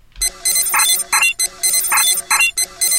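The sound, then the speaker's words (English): A video game button-press sound: a bright, synthetic chiming jingle with layered high electronic tones, playing a short pattern that repeats twice at steady volume, with no talking. “A button that has been pressed.”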